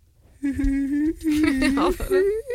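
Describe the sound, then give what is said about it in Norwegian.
A person vocally imitates a sad dog whimpering and whining, producing a few drawn-out, wavering high-pitched whines with brief breaks between them. “Men jeg skjønner at han piper og skriker når Tara passer. Du Tara overdrev, jeg kan gjøre det riktig.”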